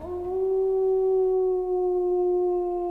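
A single long, steady wolf howl holds one sustained pitch for several seconds, clear, with no one talking.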